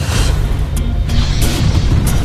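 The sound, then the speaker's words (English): Loud, rolling explosions with a heavy low rumble that never lets up, punctuated by a few sharper crashing bursts, chaotic, with no voices, as things are smashed and explode in an action movie chase scene where Duke and Ripcord give chase wearing accelerator suits. “All the while, things are being smashed and exploding.”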